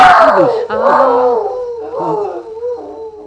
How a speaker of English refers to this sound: That sound. That's that dog. That's that Flash. Oh, dear. Him and his voice of doom.